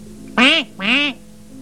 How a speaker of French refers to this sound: Un canard.